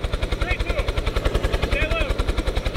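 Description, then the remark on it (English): A Kentucky State Police rescue helicopter's rotor thumps in a fast, steady chop, loud throughout, with faint muffled voice-like sounds drifting beneath the pulsing engine roar. “Four college students were rescued by a Kentucky State Police helicopter Monday.”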